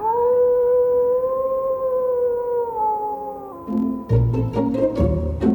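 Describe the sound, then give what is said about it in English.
A single long wolf howl at night holds a steady, slightly wavering pitch for several seconds, then sinks, giving way to a burst of sharp percussive hits and tones at the end. “And why the heck are we out here walking at night through wolf country?”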